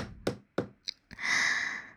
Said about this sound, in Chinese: 不一会儿，门外响起敲门声。